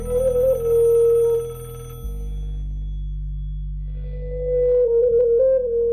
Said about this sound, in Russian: Иван испуганно дал отбой, однако телефонная трель не прекратилась. «Не подойду», — решил Живожук. Но телефон звонил не умолкая. Он разламывал голову, и совсем некуда было деться от этого настырного сигнала.